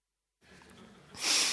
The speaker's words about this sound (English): can you mute me for a moment? I'm going to blow my nose.